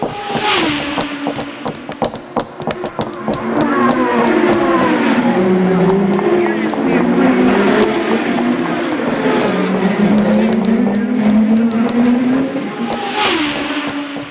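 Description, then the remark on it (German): Loud, continuous motor engine noise with rising and falling pitch as motors rev and accelerate, layered with sharp clattering transients, like several vehicles racing, with no voices. “Motoren sind es, Pferde nicht.”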